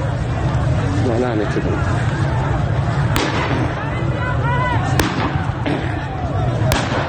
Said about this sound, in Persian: برخی ویدیوها هم از شلیک گلوله‌های ساچمه‌ای به مردم حکایت دارند.